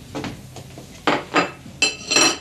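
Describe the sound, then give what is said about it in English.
A plate clatters as it is pulled from a stack, then a few sharp ceramic clinks and knocks follow as it is set down, bright ringing edges on the last two hits. “Well, I'll get you a plate. Here you are.”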